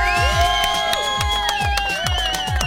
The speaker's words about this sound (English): Oh yeah, come on, big round of applause in the studio.